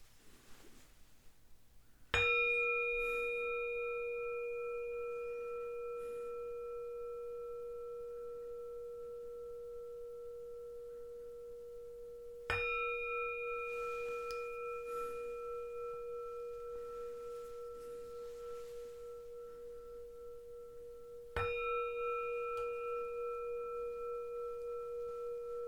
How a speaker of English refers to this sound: Three bells signify the start of meditation, and three bells the end.